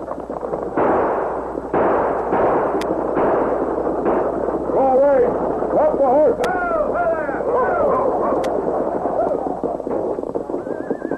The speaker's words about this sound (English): As Morgan grabbed his shotgun, Sax and Gloomy fired. The guard and driver fell from the stage to the ground.